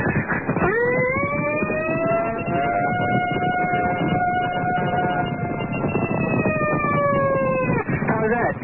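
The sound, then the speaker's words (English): A caller's voice on the Don and Mike show imitates a siren, rising into one long steady wail that holds for several seconds, then drops away. It is loud over a noisy background. “Hey, I can make that thing stand out without the siren.”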